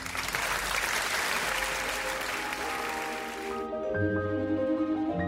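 A dense, steady burst of audience applause fills the first few seconds, then cuts off abruptly as a melodic musical passage begins.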